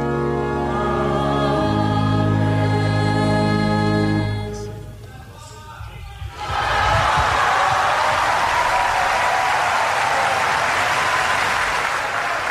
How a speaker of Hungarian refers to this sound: Kedves Mária Rádió hallgatók, a szokott módon tapsviharral köszöntik a Szent Atya mai katekézisét.